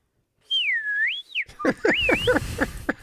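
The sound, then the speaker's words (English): A person whistles a single clear phrase that glides down and then back up for about a second, followed by a stretch of busier, choppy sounds. “Do your whistle thing.”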